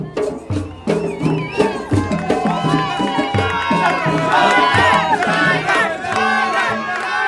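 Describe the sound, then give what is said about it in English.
A lively street crowd shouts and calls out together for a local man to play, many voices overlapping in loud, rhythmic bursts, with some pitched, chant-like cries rising above the din throughout. “Back with the ballad group in the street with no name, and the crowd are calling for a local man to play the barrowing.”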